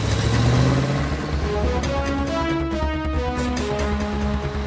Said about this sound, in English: We're inside a truck. And the top just closed.